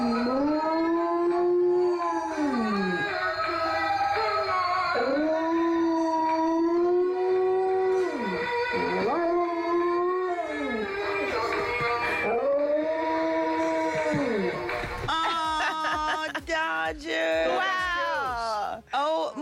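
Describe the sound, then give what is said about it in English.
A dog howls in long, rising and falling wails right alongside its stuffed lion toy's tinny singing melody, played by pressing the toy's paw, both loud, continuing for nearly twenty seconds. “if you press its paw, it sings. Today, Dodger decided to join.”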